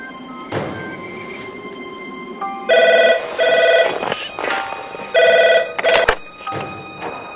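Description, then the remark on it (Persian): A telephone rings loudly in repeated electronic bursts, each ring a pair of trilling pulses, over a steady low background rumble with a few scattered knocks. “زود باش سرگرد، تلفن بزن.”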